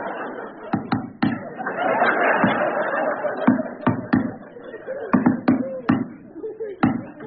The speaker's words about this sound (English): Will you stop that flipping knocking?